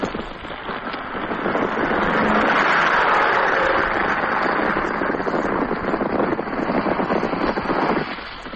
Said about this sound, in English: Here goes the first plane. You can probably hear it. There she goes now.